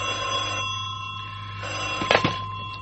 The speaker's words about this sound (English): Unless, that is, one morning at the office, the phone on his desk rings.